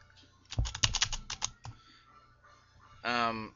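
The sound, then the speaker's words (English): A quick burst of about ten crisp keystrokes on a computer keyboard, fairly loud, as a name is typed with the keyboard echo turned off so nothing is spoken, then a pause and a brief buzzy electronic tone. “I typed Joseph Lee.”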